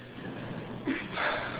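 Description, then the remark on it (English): A speaker breathing heavily during a talk: heavy, breathy exhales and inhales rush in over a steady hiss, with a short gasping breath followed by a longer, louder one near the end. No one speaks. “I'm going to slow down because I'm breathing heavy.”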